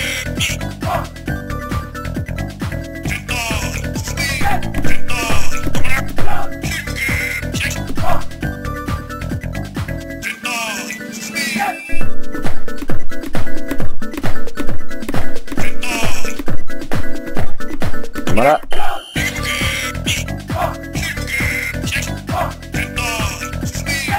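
Chiptune music from a Game Boy game, built from buzzy square waves of the original Game Boy sound chip, plays continuously and loudly, with a bouncy melody over a pulsing bass line, a brief shift in texture midway, and a quick rising sweep.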